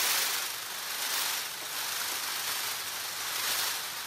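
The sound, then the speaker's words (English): A peacock's train rattle, or love buzz: a dry, hissing, high-pitched shimmer of feathers shaking continuously, swelling gently in loudness about once a second, with no voices. “Scientists aren't quite sure how the train rattle love buzz fits into peacock mating behavior, but for the first time, we're starting to listen in.”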